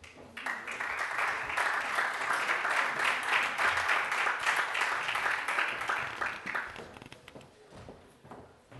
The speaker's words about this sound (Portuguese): Escola Secundária Dr. Manuel Candeias. Aplausos.